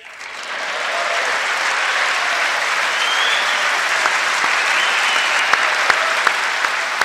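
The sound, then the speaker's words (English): Sustained applause in a chamber fills the whole stretch, with Donald Trump clapping loudly in front of the microphone over the American flag; a dense wash of many hands clapping, with a few sharp, louder individual claps punching through toward the end. No voices are heard. “That's his loud clapping in front of the mic over the American flag.”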